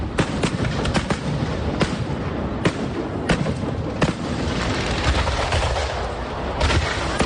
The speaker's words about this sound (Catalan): Fins diumenge 27 de juliol, cada nit hi haurà castell de focs en competició a Blanes amb 5 pirotècniques.